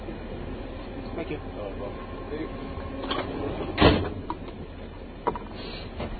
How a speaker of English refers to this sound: Another person ripped open the door and wanted documentation from us, but three times we get the tickets checked.